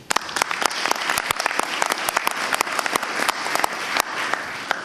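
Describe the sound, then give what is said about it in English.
An audience applauds steadily, dense overlapping hand claps forming a bright, sustained wash of sound with sharp individual claps popping out, holding at an even loudness throughout. “I would like to just applaud you and thank you for coming out tonight.”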